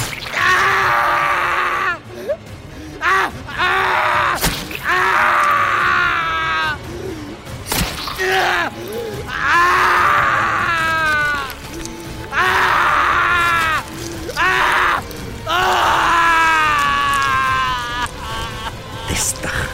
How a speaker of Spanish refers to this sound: Con la precisión y rapidez de un experimentado asesino, Héctor gritaba de dolor. Pero apenas si se podía mover.